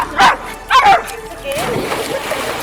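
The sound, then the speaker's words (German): A dog in the Black Forest barks twice in quick succession, loud, followed by a softer whining sound as the barking trails off. “Und ich sag mal so, sogar mein Hund mag's hier.”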